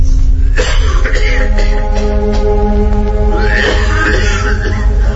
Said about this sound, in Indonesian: Aku bisa mendengar ayahku batuk-batuk di kamar.